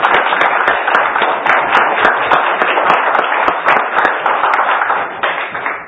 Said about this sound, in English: Let's give God a big hand clap of praise.